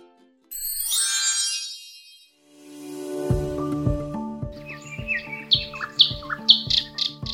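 A bright flurry of small-bird chirps and trills opens, then gives way to a light, rhythmic musical jingle with ringing bell-like notes and soft beats; no one speaks.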